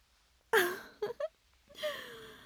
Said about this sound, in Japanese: あら、どうしたの？もしかして泣いてるのかしら？